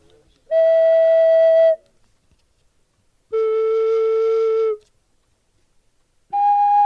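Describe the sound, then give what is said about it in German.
Three steady, piping whistle tones from a pipe sound one after another, each held for over a second with brief silences between, shifting in pitch from note to note, clear with no talking. “Also ist jetzt nicht, also die Länge der Pfeife steht, es passt nicht zu dem Ton, zu der Tonhöhe.”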